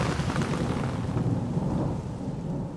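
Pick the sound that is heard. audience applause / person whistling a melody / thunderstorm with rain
thunderstorm with rain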